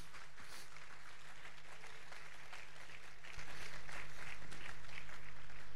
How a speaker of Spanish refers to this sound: Y a su nombre, fuerte aplauso a Cristo, aleluya.